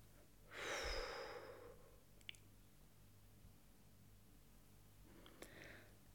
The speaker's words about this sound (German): Wir werden jetzt die Übung zusammen dreimal machen. Atmen Sie alle Luft aus Ihren Lungen.